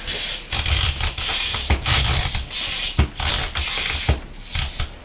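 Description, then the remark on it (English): A mechanical timer is wound and set for a children's sticker activity, with a rapid series of ratcheting clicks, uneven in rhythm, with brief pauses between bursts of fast, gritty clicking. “Get your timer set, and then we'll read it again and put the stickers out.”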